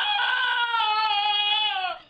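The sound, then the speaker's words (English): A single loud, drawn-out braying cry from a donkey that lives near Galway, Ireland, a harsh, strained wail held for about two seconds, sliding slightly downward before cutting off. “Harriet, the donkey, lives near Galway, Ireland.”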